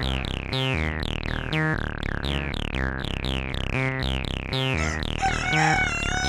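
Loud, rapid, rhythmic series of rooster crows and chicken clucks packed tightly together, pulsing steadily with no pauses and no talking, ending in a higher, warbling crow.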